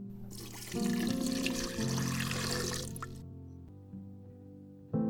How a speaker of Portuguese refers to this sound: Os porquinhos mais novos ficaram aflitos, mas o mais velho, que era muito esperto, colocou no fogão, por baixo da chaminé, um grande caldeirão de água a ferver.